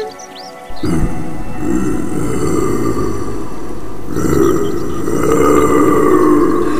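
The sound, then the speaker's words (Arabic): A big bear in a forest growls, a deep, rumbling growl that starts abruptly and continues loud for several seconds, swelling again midway, with no voices present. “ما هذا؟ إنه دب كبير.”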